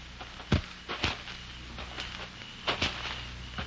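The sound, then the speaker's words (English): Several footsteps crunch on a path toward cliffs at night at an uneven walking pace, with a few louder steps standing out over a steady low background hiss. “Then you hear the footsteps.”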